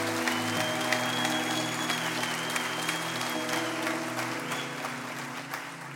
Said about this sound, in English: you guys can clap for her as she comes, if you don't mind.